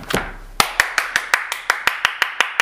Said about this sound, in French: On applaudit bien fort.